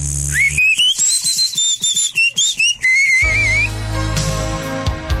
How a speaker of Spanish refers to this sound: Radio Marketing del 98.5 introduce al mercado lo que usted había estado esperando toda su vida: el nuevo llavero chiflador.